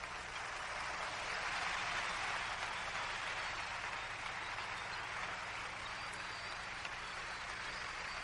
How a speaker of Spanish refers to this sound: Give the Lord a clap of hands. Oh, dale otro aplauso al Señor.